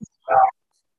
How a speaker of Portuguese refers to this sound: Tem um cãozinho latindo, eu estou ouvindo muito.